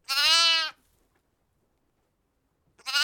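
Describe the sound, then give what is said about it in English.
A lost lamb bleats twice at night, loud, with a wavering, quavering cry followed by a pause of silence before a second bleat begins. “The little lamb was lost and frightened.”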